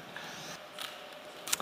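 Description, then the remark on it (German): A Rubik's cube being twisted as a person solves it, with a few quick plastic clicks and clacks spaced irregularly over a soft background hiss, not very loud. “was passiert, während Levi diesen Würfel löst”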